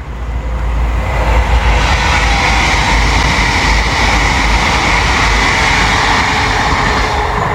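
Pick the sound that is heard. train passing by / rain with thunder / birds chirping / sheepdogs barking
train passing by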